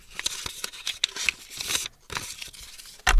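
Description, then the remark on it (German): Paper rustling and tearing as a small packet of cards wrapped in recycled paper is opened, a run of crisp crinkles and rips ending in a louder burst of handling noise. “Sympathisch irgendwie in recyceltem Papier verpackt.”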